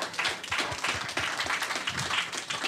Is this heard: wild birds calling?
no